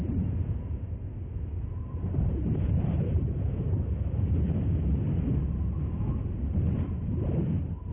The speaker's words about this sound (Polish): Zimowe temperatury spadają do minus 50 stopni. Wiatry wiejące z prędkością do 100 km na godzinę rozrzucają lód i śnieg dookoła.